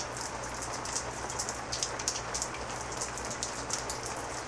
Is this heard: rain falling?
yes